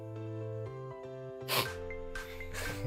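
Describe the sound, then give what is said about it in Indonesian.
Two wet, snotty sniffs, one short burst and then a longer drawn-in snuffle, rise above a steady humming, music-like tonal background. No one talks. “Ditutupnya dengan suara ingus.”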